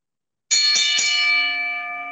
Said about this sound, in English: ring the bell.